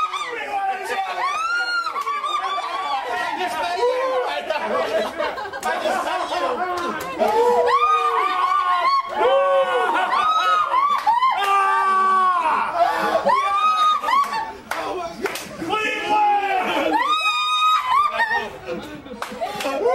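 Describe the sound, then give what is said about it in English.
A loud, dense crowd roars and chatters nonstop, with shrill, excited voices rising above the din, including a woman screaming and shouting over and over. “You saw that lady who was screaming, shouting?”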